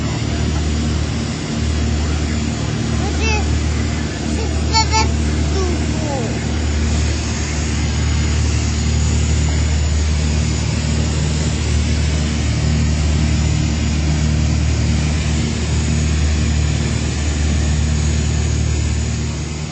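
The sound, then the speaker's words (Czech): A light aircraft's propeller engine drones loudly and steadily in flight after taking off from Vodochody airport, a low humming roar with layered tones that holds constant throughout, broken only by a couple of brief clicks early on. “Odpoutali jsme se z letiště vodochody”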